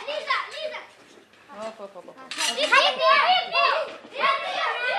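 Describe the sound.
A crowd of children shouts and cheers excitedly, their high-pitched voices overlapping in a continuous, lively clamor that swells louder after a brief lull, as they rush toward a Jeep entering the compound of the Slovene Village camp in Jakova at the start of a singing and harmonica class.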